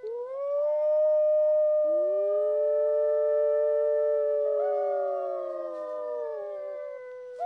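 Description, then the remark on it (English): A wolf pack howls far away at night, answering people who imitate a pack; several long sustained voices overlap and waver in pitch, one rising in after another, with no talking. “The answer comes, but it's not from the beaver dam. The wolves are far away.”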